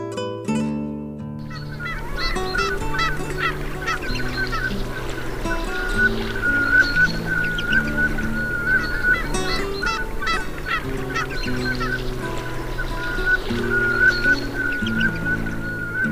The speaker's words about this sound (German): Das war die Samtente.